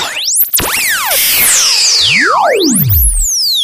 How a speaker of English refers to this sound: Whistles and missiles.